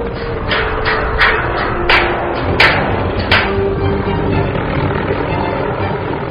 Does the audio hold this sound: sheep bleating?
no